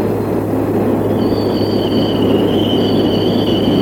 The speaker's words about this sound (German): U-Bahnhof Wolterstraße, das ist der erste U-Bahnhof hier wieder auf Westberliner Gebiet, nachdem die Bahn den Ostsektor von der Leinestraße her kommend durchfahren hat. Jetzt läuft ein Zug von der Leinestraße her kommend in den Bahnhof ein.